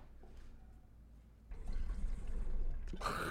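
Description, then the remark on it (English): Water sloshes and gurgles as someone drinks it, starting faintly then swelling into a steady rushing churn halfway through, ending in a brighter, louder splash. No one speaks. “Dude, I just drank so much shit water, dude.”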